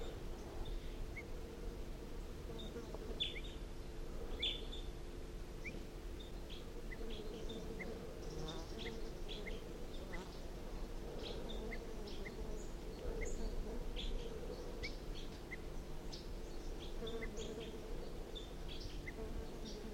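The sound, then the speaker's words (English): Repeated short, sharp alarm calls of wild birds sound throughout, scattered irregularly over a steady low insect-like drone. No one speaks. “So recording again, wild bird, alarm calls.”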